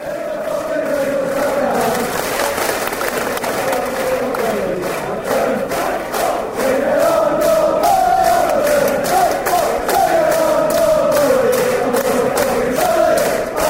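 A large stadium crowd chants in loud unison, a sustained melodic roar of many voices rising and falling, with sharp rhythmic claps or stamps punctuating the singing throughout.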